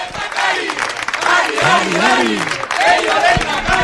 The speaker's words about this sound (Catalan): Que la gent vagi a votar, sobretot, i ja ho sentiu de fons, moltíssima gent del poble animant-lo. De fet, quan arribem aquí, Pello Chandiano, ho sentiu de fons, escolteu, mira.